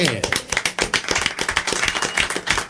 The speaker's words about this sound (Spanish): Este aplauso para ustedes.